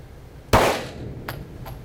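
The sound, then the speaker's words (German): A single loud, sharp gunshot fired at a target cracks out with a brief reverberant tail, followed by two fainter, quicker reports a moment later, no voices present. “Wie viel Schuss solltest du abgeben? 2. Richtig, dann machen wir nochmal los.”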